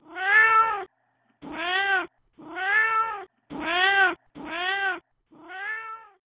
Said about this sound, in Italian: E infine arrivò, confuso con i suoi mezzi sogni, un miagolio di un gatto in amore assai malinconico.